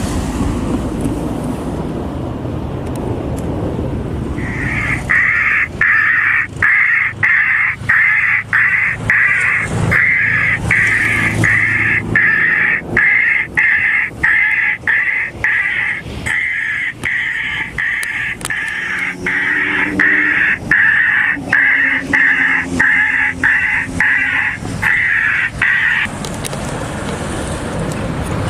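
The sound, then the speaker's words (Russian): Loud, rapid series of harsh jackdaw distress calls blares from the speaker of a bioacoustic bird repeller for about twenty seconds, during a test on about ten jackdaws, each call sharp and repeating in a fast steady rhythm over faint outdoor wind. “Молниеносно отреагировали на крики бедствия, покружили над нами и в панике улетели.”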